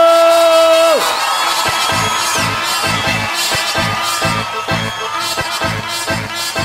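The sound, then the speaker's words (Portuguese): A large crowd shouts and cheers loudly for several seconds in a dense, sustained roar, answering a call to shout, with a steady rhythmic beat pulsing underneath and a brief sustained tone at the very start. “agora dá um grito!”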